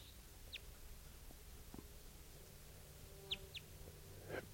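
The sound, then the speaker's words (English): A few short, high descending chirps from a wild bird, a variant of a type 2 call, spaced apart over a quiet outdoor background with a low rumble, fairly faint. “Wild bird.”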